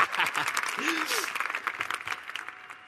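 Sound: audience clapping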